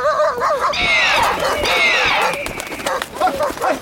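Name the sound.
dog barking and whimpering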